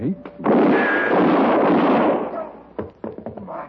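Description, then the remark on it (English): A single loud gunshot erupts into a booming, roaring blast that trails off over about two seconds, followed by a few short, sharp knocks. “Shoot the winner in the back.”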